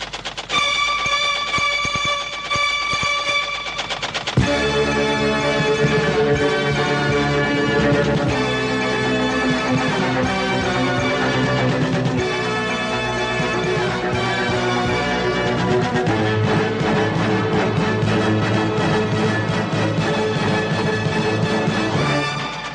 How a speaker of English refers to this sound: And there was news, of course, too, if there was time after this understated news jingle.